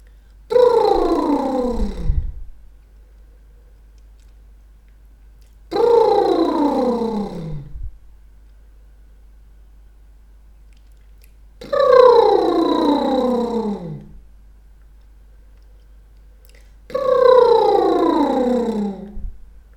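Four buzzing lip trills done as an exercise, breathing in through the nose and letting the lips bubble, each about two seconds long, with the voiced pitch sliding downward. They come at a steady pace with short silent gaps between them, and no talking.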